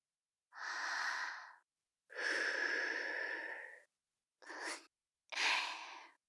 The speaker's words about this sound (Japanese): 私の吐息を耳で感じて、あなたのおちんぽが反応しているわ。